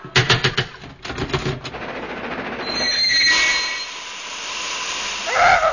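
A steam train pulls in at a station: rapid rhythmic chuffing slows and fades, a brief high whistle sounds, then a long hiss of steam with faint squealing brakes near the end.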